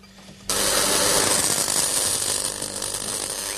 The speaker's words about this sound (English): The plug's been bolted inside the barrel, and now he's welding on a metal strap. Sort of belt, braces and big strappy thing.